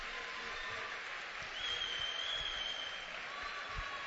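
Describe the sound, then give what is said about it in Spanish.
Sustained applause from an audience at the Christmas carol (villancico) contest in Guareña, a dense, even wash of clapping that holds steady for several seconds at moderate loudness, with no voices rising above it. “se merece un gran aplauso.”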